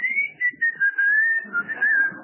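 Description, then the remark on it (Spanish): A person whistles a steady, slightly wavering high tone for about two seconds, imitating the hiss-whistle of a hot pressure cooker's escape valve, clear with faint breathy noise underneath. “va a escuchar que un silbidito que hace la... ¿Y por qué no se usa más la olla a presión ahora?”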